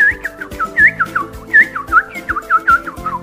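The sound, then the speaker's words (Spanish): A person whistles a cheerful, chirpy birdsong imitation, a rapid string of short rising and falling trills over a soft, steady musical backing, with no talking. “Los pájaros cantaban alegremente.”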